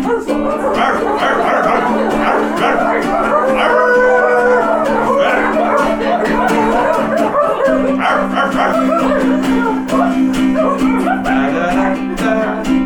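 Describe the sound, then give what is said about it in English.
A crowd of people, asked to bark, barks like dogs, many overlapping yips and woofs in a loud, continuous chorus over a steady low drone. “Everybody bark, please.”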